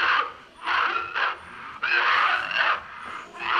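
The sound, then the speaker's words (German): A man coughs repeatedly in a run of harsh, rasping bursts, some short and some drawn out, each separated by brief pauses, with no speech, in the 1969 short film "Der Mann, der hustet" (The Man Who Coughs), which opens an exhibition. “Mit diesem Geräusch beginnt die Ausstellung. Man hört es, bevor man noch das Bild sieht. Ein Kurzfilm, Der Mann, der hustet, von 1969.”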